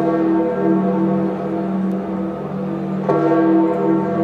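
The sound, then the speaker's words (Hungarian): Church bells ring continuously in a full, resonant peal, several bells overlapping into a steady wash of tone with a fresh strike near the end, no voices present, as Pope Francis's remains are carried back into St. Peter's Basilica after his funeral ceremony. “A gyászszertartás után harangzúgás kíséretében vitték vissza Ferenc pápa földi maradványait a Szent Péter bazilikába.”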